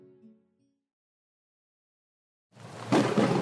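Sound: thunderstorm rumbling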